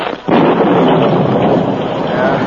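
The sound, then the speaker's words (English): A sudden, loud crash of thunder as a sudden storm breaks comes after a brief quiet and rolls on as a dense, roaring rumble filling the rest of the moment, powerful, with no voices. “As he rode, a sudden storm broke.”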